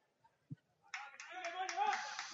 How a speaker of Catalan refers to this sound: Aplaudeix el conjunt lleidatà donant molts ànims.